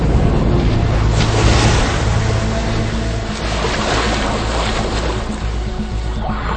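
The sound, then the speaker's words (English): A powerful wave, unleashed by a pod hunting a Weddell seal, surges and washes across ice to knock the prey into the water. It makes a loud, continuous roar of rushing water that sustains for several seconds, with a wind-like hiss and no voices. “This time, they unleash a far more powerful wave and with astonishing accuracy.”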